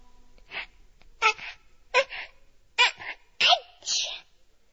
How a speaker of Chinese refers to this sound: …打了一个很响的喷嚏。